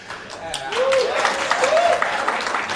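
Polite applause from a small crowd, a steady patter of hands that holds for a few seconds, with a couple of brief rising vocal tones over it.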